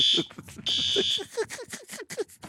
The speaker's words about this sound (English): The fire alarm just went scared off. Scared the crap out of me. The fire alarm has gone off here at our studios.